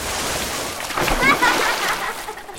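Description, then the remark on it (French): Sea waves in a storm splash and churn in a steady rush of water that swells louder around the middle, with a few brief tonal streaks riding over the wash before it settles slightly toward the end. “Ça avait été tellement génial d'être roulé dans les vagues pendant la tempête.”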